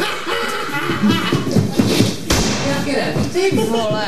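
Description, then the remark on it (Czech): A door is pushed open and bumps shut with a dull thud and a sharp knock midway, while people talk and laugh over the handling noise. “A teď mi řekni, kdo vydrží odevírat a zavírat.”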